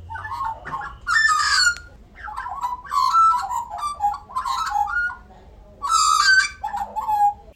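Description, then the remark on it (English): Magpies carol in a run of rich, warbling calls, several overlapping bursts rising and falling over about eight seconds, clear with no talking. “So we've been listening to the magpies.”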